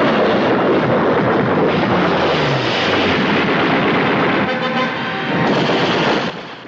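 Loud, dense bursts of rapid gunfire and blasts roar continuously with a rushing engine-like wash as a fighter plane in a fjord fires on anti-aircraft guns and blows one anti-aircraft nest to pieces, a chaotic battle din that stays intense before dropping off abruptly near the end.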